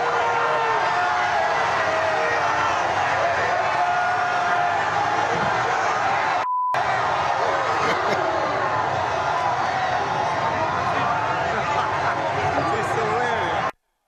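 A large crowd roars steadily and loudly throughout, letting out a collective groaning "ooh" as a man falls while trying to jump from a bridge overpass onto a bus carrying players, with a brief cut in the sound partway through.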